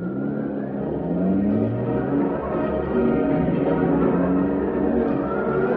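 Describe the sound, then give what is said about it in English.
A car engine revs and accelerates steadily as the car sets off to follow another car, its rising whine and low rumble continuous and fairly loud for several seconds, with no voices over it. “I'm going to follow that car.”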